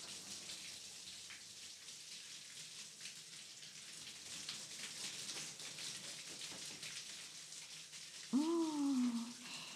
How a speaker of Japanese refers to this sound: シャワーで流していくね。